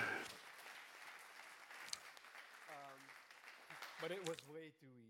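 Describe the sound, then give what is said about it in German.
Steady audience applause, a dense wash of many hands clapping at once. A voice starts speaking over it partway through, and the applause thins out as the talking picks up near the end. “Runder Applaus.”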